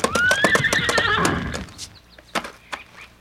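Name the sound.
horse galloping and neighing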